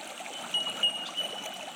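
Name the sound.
flowing creek water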